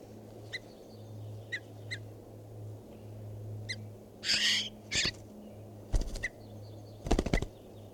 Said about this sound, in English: So recording, this is bird 519.